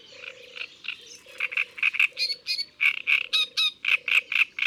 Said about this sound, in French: Au bord de l'eau, là où il y a des roseaux, on ne pourra pas manquer la rousserolle turdoïde. Son chant bruyant s'entend à près d'un kilomètre.